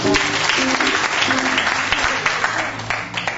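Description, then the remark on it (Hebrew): An audience claps steadily, a dense wash of applause that holds loud for the whole stretch, with faint voices murmuring underneath. “לחיות כפיים.”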